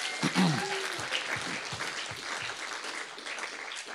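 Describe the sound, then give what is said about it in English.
A church audience claps steadily to celebrate five salvations over the Easter weekend, a dense wash of many hands that holds an even level throughout, with a brief rising cheer or whoop near the start. “So let's if you all won $1 million right now, you'd be clapping louder than that.”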